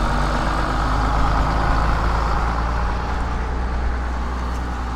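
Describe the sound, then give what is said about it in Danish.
A high school bus's diesel engine rumbles steadily, a low continuous drone like a bus idling, with no voices present. “Nu kommer jeg gymnasiebussen.”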